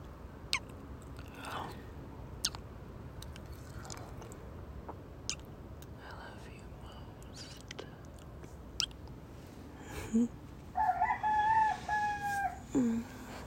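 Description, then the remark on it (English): A rooster crows twice near the end, a rising harmonic cock-a-doodle-doo, over a steady hiss of background noise scattered with soft clicks and crunching sounds; no one speaks. “Well, now that the roosters are up, let's go to sleep.”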